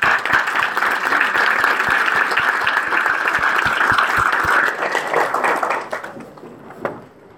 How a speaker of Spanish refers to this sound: Recibimos al padre con un gran aplauso.